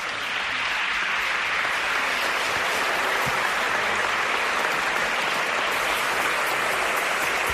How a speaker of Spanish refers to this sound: Les vamos a pedir un fuerte aplauso a todos los presentes.